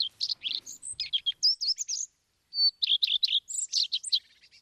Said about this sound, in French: C'est un rouge-queue ? Oui, c'est un rouge-queue à front blanc.